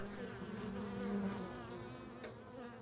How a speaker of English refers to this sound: There is a beehive in the rafters of our house, and I can hear it all the time.